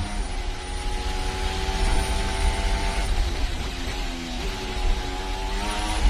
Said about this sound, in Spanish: pero en todo el sonido del motor vais a notar que hay un zumbido permanente en el motor del coche de Fernando Alonso. Vamos a escucharlo. Oís a altas revoluciones, ese zumbido, esas son las vibraciones.